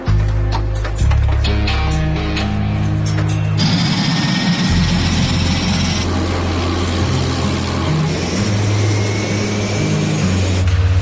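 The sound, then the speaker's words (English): A loud, steady engine of an Electra propeller plane drones throughout, its deep, throaty roar shifting in pitch as power builds during takeoff for Yellowknife. No voices are heard. “They take off. They'll be in Yellowknife in less than 4 hours.”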